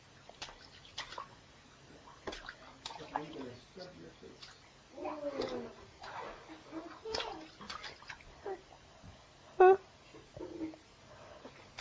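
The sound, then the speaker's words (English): A baby sitting up in a bathtub splashes the water in irregular bursts while holding a cup and a turtle, with one sharp louder splash near the end and the child babbling softly in between. “There's not going to be any water left in here, little boy.”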